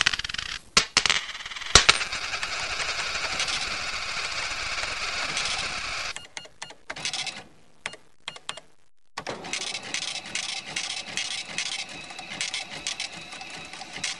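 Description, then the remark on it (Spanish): A coin clinks as it drops into a slot, then a machine whirs and rattles steadily, stutters to a brief stop and starts up again with a choppy mechanical churning. No voices. “Eche una moneda y quedará alucinado.”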